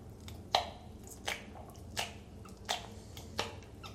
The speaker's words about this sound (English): So this device here, the jaw exerciser, just hold it in place and just chew from here.